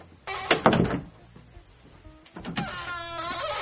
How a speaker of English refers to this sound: This door is so squeaky.